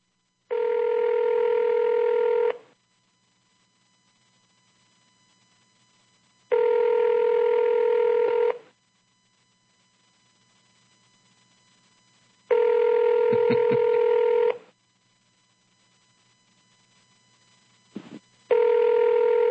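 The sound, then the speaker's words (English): A telephone ringback tone on an outgoing call: a steady buzzing tone repeating about every six seconds, each burst lasting around two seconds, with quiet gaps and a faint click between rings. “Can you hear that, Bert? Yes. It's ringing.”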